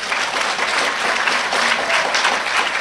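Steady applause from an audience for a speaker who has just finished sharing, a dense crackle of many hands clapping at an even level throughout, with no voices standing out.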